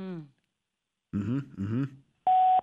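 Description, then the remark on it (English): A phone voicemail recording beep: one steady, loud electronic tone lasting about a third of a second, sounding right after short bursts of a voicemail greeting asking the caller to leave a message. “Oh, so not hang up after the tone or anything.”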